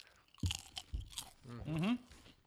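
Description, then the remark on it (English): Hot dog flavored potato chips crunching in a few sharp, crackly bites, followed by a short voiced murmur that rises in pitch as the crunching trails off. “Where we eat potato chips.”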